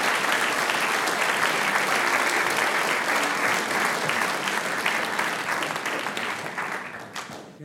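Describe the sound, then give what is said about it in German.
An audience applauds steadily as the mayor of the market town of Bingau and the event organizer are called onto the stage, a dense wash of many hands clapping at a constant loud level before thinning and fading away near the end. No one speaks over it. “Meine Herren, auf die Bühne, und das ist gleich einmal euer Applaus.”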